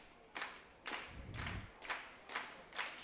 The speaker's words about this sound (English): As Finley leads the slow claps on the Threshers dugout.